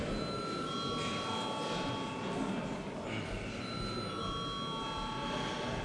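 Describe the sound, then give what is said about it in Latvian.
An electric bell rings continuously for several seconds in the chamber of the Latvian Saeima, called for before a vote on granting urgency to a bill, a steady, buzzing metallic tone over a faint background murmur. “Paldies, lūdzu zvanu.”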